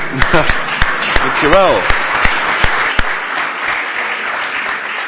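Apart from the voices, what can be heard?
audience applause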